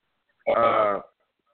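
One loud, throaty hiccup lasting about half a second, with a croaky voiced quality, heard on its own with no talking around it.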